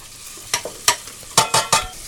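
Diced bacon sizzles in hot lard in a pan under a steady crackling hiss, broken by several sharp, bright bursts as the pieces are stirred and tossed. No one speaks.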